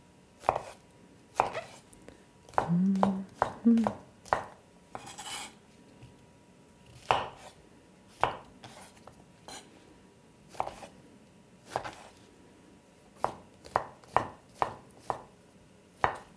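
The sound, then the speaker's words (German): A knife chops button mushrooms (champignons) on a cutting board in sharp, irregular taps with uneven pauses, one short scraping burst in between, and a faint low hum early on; no one speaks. “Während wir hier schnippeln, kann ich euch eigentlich gleich die ganzen Tipps mitteilen.”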